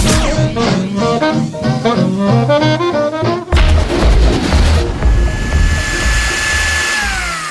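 A short, loud burst of electric kitchen blender whirring cuts in midway through an upbeat musical jingle for the Radio G show Le mixeur, grinding harshly for about a second before the music carries on with a rising tone.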